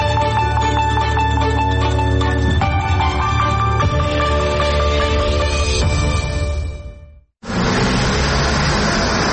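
Steady tonal music plays for several seconds, then cuts out abruptly and gives way to a loud, dense wash of heavy road traffic on roads in Mazandaran province, northern Iran, during the Muharram holidays in Shahrivar.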